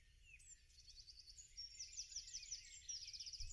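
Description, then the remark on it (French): Birds chirp and twitter steadily in the background of a garden lawn on a fine day, with quick repeated high notes and trills overlapping, fairly soft over a low outdoor rumble. No one speaks. “Tu entends le gazouillis des oiseaux.”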